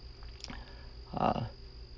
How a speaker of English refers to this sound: I live out in the country, so you guys may hear crickets. They're actually really active tonight. I love listening to them, so it might be a little distracting.